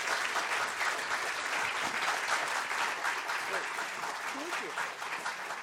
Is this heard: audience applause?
yes